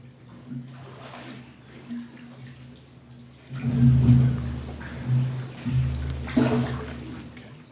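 Water sloshes and splashes as someone steps down into a baptismal pool during a baptism, the swirling growing louder midway and continuing in uneven surges over a steady low hum.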